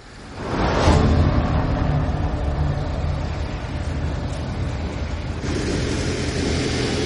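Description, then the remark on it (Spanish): A car engine rumbles steadily, its low drone shifting partway through as the vehicle eases off to slow down for a turn. No one speaks. “El coche reduce para girar.”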